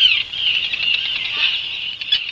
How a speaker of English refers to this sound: Here's a little bird song from the Channel Islands National Park you just mentioned in California. Sound of newborn baby puffin broadcast through a live cam there.